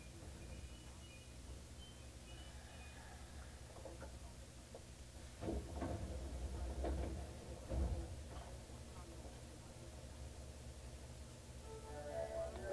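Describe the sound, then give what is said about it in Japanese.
The right-side doors of a train bound for Kireuriwari slide open at Fuminosato station with a burst of clattering, hissing noise midway through, set against a steady low rumble of the stopped carriage; no one speaks. “右側の扉が開きます。”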